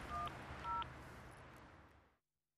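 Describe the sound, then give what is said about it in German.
Two short electronic keypad beeps from a mobile phone being dialed to call an ambulance, a quick pair of dialing tones over a steady rushing background noise that fades out near the end. “Wo ist denn mein Handy? Ach, hier ist es.”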